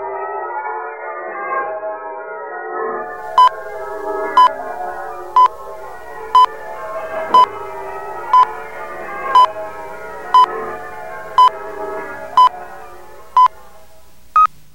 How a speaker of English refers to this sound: Check your time with the LM chime. It is exactly 12 noon.